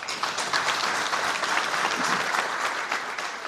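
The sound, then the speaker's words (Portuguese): A crowd applauds General Camorteiro steadily throughout, a dense wash of many hands clapping at an even, sustained loudness with no voices rising above it. “Aplausos para o general Camorteiro, que a 4 de abril de 2002 assinava por parte da UNITA, com o MPLA no governo, a paz em Angola.”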